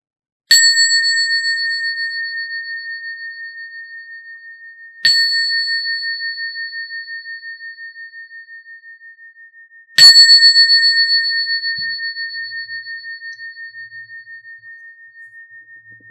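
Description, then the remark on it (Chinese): A meditation bell is struck three times at even intervals about five seconds apart, each clear ringing tone sustaining and slowly fading with a gentle shimmer into the next strike. No voices. “当听到铃声邀请的时候，可以选择一个放松而警醒的姿势坐下来。”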